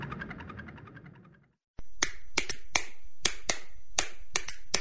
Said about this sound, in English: What's the universal language of a fan? Clapping your hands.